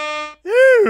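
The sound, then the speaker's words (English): Two loud, brassy air horn blasts close together. The first is a steady flat tone; after a short gap, the second swoops up and down in pitch, like a voice mimicking the horn. “Give me the air horns for people on time.”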